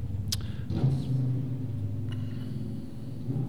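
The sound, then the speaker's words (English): A motor rumbles steadily and loudly, a deep droning hum with a low, slightly pulsing tone, broken by a couple of brief higher clicks. No one speaks. “It's a loud motor.”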